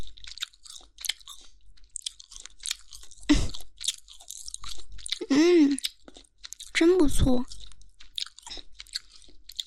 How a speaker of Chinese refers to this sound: 这一边好像比那一边大一点，更有嚼劲呢。哎呀，还有一些皮皮没有咬完。粘在上面，晃来晃去的。